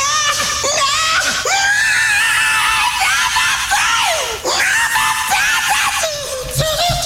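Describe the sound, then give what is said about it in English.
A loud, raspy rock-star-style scream used for a random-facts segment holds high and strained for several seconds, breaks briefly, then surges back into more wailing, gritty screaming with no talk. “And now, having a rock star scream for the guy that does random facts.”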